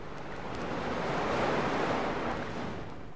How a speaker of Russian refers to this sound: Вот оно море. Я вижу его через окошко своего ящика.